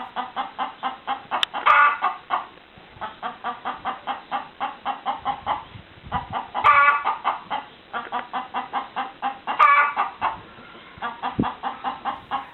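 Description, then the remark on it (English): Several rescue chickens in Norfolk cluck steadily in a dense, overlapping chorus, with louder squawking calls breaking out roughly every few seconds. Nobody speaks. “Rescue chickens now living at a secret Norfolk address”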